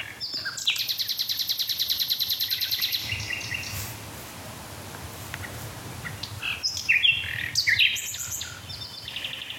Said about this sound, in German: Nochmal nachgelesen, es sind 300 Motive, die man bei einer einzigen Nachtigall gezählt hat. Und wenn man sich dann die Kombination aus diesen 300 Motiven vorstellt, es ist eine Zahl, die ist unfassbar hoch.